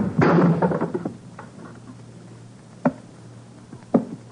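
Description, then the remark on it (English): The edge of a hand strikes the thick wooden arm of a chair with a sharp blow, and the arm snaps with a splintering crack, followed by a brief crackle, then two isolated knocks a few seconds later, like pieces dropping. Fairly loud, with no talking. “When I brought the edge of my hand down upon the arm of that chair, it snapped like a dry twig.”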